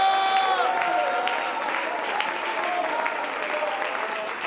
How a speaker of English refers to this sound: Oh, would you clap your hands and shout with your voice? Hallelujah!